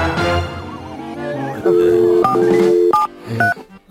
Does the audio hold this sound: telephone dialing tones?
yes